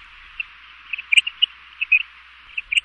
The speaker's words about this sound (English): If I slow it down, you can hear it better. There you have it, the howling mouse of the prairie. High-pitched or not, the meaning of the howl seems pretty clear.